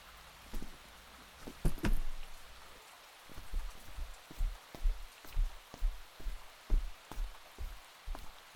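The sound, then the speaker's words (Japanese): Steady, heavy rain that is growing stronger hisses throughout, with a regular pattern of low, heavy drops thudding on a surface about twice a second. No one speaks. “雨が強くなってきましたね。”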